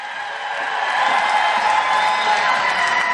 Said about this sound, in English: And if you guys could give a round of applause, because my fellow cancer survivor,